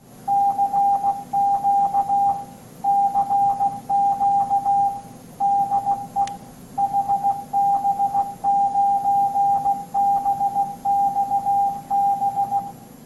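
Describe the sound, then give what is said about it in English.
Morse code beeps out in a steady single-pitched tone, keyed in quick dots and dashes with short pauses between groups, over a low background hiss like a radio signal. “Well, for those who don't know what that is, of course, Morse code.”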